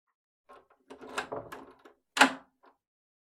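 A door being closed and locked: a run of rattling, scraping clunks, then one sharp, loud latching clack and a faint final click. No voices.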